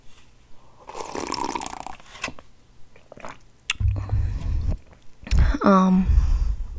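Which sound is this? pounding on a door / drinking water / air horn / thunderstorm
drinking water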